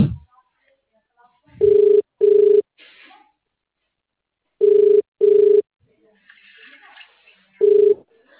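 A telephone rings loudly in short double bursts, ring-ring, pause, ring-ring, then a single ring starts again, with faint background noise between the rings.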